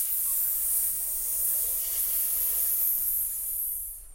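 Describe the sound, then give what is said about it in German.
A steady, breathy hiss sounds fairly loud for about four seconds, like snakes hissing, before it thins out and fades at the end. No voices are heard. “Ah, Schlangen, schnell weg hier!”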